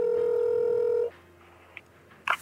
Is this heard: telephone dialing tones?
yes